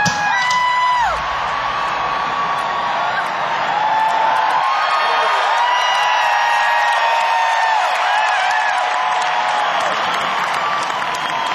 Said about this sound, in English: Look at the size of the crowd. Why, this must be the biggest crowd I've ever seen in New York.